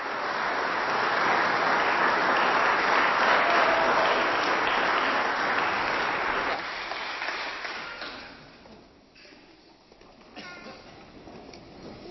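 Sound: audience applause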